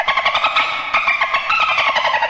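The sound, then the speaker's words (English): Dolphin sound played as a sample alert for a device that goes off when it detects COVID: a loud, continuous stream of rapid, high-pitched squeaky chirps and clicks in a fast pulsing rhythm, lasting about two seconds with no talking. “It's a dolphin sound.”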